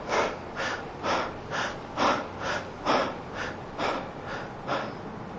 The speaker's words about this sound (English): So I'm going to ask you to breathe the wrong way on purpose now. Breathe only in your upper chest and breathe 30 shallow and rapidly. In other words, nothing should move but your upper hand. Your bottom hand shouldn't be moving at all. Upper hand go.